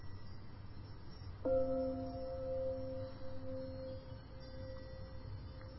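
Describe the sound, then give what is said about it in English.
A Tibetan bell is struck once to mark the transition into meditation and rings on with a clear, sustained tone that slowly fades over several seconds, heard alone above a quiet low background hum. “Like we often do, we can use the sound of the Tibetan bells to help us make that transition.”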